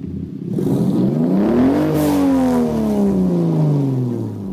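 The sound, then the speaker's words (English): A straight-six car engine revs up hard, pitch climbing to a peak around two seconds, then the tone falls away smoothly as it winds back down, loud with no one talking. “So I'm not gonna quite say it, but straight six engines are definitely really good engines.”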